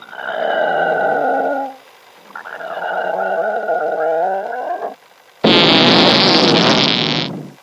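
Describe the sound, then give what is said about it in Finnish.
Two long, loud, buzzy farts with wobbling pitch follow one another, then a final harsh, hissing blast of noise about two seconds long. No one speaks. “Se oli niin kauhea pommi, että käenpoikanen putosi pyörtyneenä pesästä ja muutkin linnut lakkasivat laulamasta.”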